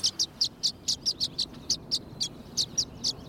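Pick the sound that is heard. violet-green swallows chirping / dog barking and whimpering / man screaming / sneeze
violet-green swallows chirping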